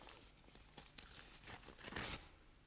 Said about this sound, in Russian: Давайте вскроем пакет.